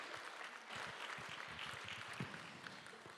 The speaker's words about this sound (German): Und ich möchte euch bitten, einen fetten Applaus mal jetzt zu geben für dieses Team, der das vorbereitet hat.